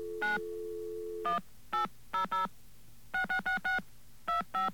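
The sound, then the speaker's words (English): A dial tone cuts off as a string of short telephone keypad tones is punched in to call an 800 number, about eleven beeps in uneven clusters, clear with a low hum underneath. “Now, what we're going to do here is pick up a phone once again. I'm going to call an 800 number, a very special 800 number.”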